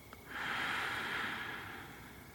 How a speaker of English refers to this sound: I want you nice and relaxed. Another deep breath in and out. Good.